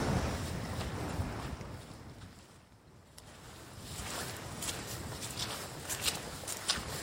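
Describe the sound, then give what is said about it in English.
Footsteps crunch steadily along an outdoor hill path below a windy summit, sheltered by hills rising to the side and ahead, walking into the sun, with gusty wind rumbling and hissing throughout and a brief lull midway. “We reached the summit where there was a cairn and it was so windy that it nearly blew us off our feet, and having dropped back down again, we've got protection now from the hills rising to the side and ahead of us and walking into the sun.”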